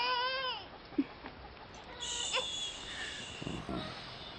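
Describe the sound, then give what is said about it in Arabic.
A baby cries in a short, wavering wail at the start, then fusses more faintly over a steady background hiss. “لقد استاء منك.”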